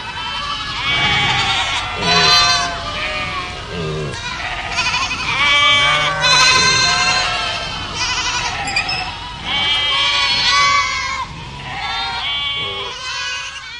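A chorus of a herd of about 50 dairy goats bleating continuously, many overlapping calls at once, loud, at the Kozi Gród goat-cheese farm in Słotwiny, Karczmiska commune, with no pause in the noise.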